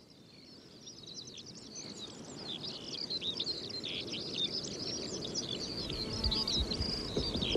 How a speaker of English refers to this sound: This week they're craning their necks even further than usual, all the better to make out that distant speck, the skylark.